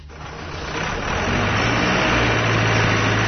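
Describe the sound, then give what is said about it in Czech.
A forklift engine runs with a steady low drone and broad mechanical noise as workers move construction timber into a large hall at the port of Warrenpoint, Northern Ireland, swelling a little over the first second and then holding level. No voices are heard. “U Luciju Warren Pointu radnici upravo viljuškarima prebacuju drvo za gradnju u veliku halu.”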